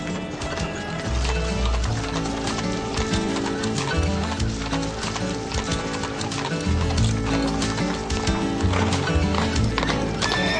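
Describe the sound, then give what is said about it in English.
Horse hooves clip-clop in a steady, lively rhythm, with a horse neighing, layered over a dense, continuous musical background at a fairly even loudness. “Horses will always be the best.”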